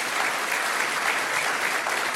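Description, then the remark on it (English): Steady, dense applause from a crowd for a summer intern, a continuous crackle of many hands clapping at an even loudness for the whole stretch, with no voices standing out. “Hey, would you all give Aiden a big round of applause so he can hear that anywhere he's at?”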